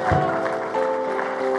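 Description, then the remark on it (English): An audience claps together in a dense, continuous wash of hand claps, with steady sustained musical tones ringing underneath throughout. “You're going to clap? Come on, clap.”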